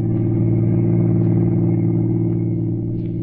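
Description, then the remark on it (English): A car engine hums steadily at a constant speed as a man drives along a lonely highway in the evening, a smooth, continuous low rumble with no talking, loud throughout. “For the next evening at 8, he was behind the wheel of a car, rolling smoothly along a lonely highway.”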